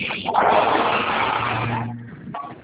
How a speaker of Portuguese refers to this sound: Espera aí, está passando o carro aqui.